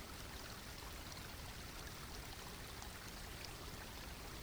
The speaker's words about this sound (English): Now look down at your feet, at the edge of the water, and step forward into the stream so that the water is running across the tops of your feet and around your ankles. Feel the coolness and the movement of the water.